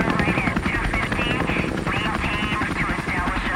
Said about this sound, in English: It was 4:30 a.m. on a Tuesday morning when the helicopters roared over the residential compound in southern Baghdad.